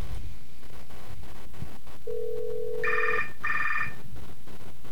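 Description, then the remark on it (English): A phone line tone hums steadily, then two short, bright electronic ring bursts follow in quick succession on an outgoing Skype call to a cell phone number, heard through a handset over faint background hiss with no one talking. “I misdialed my own cell phone number.”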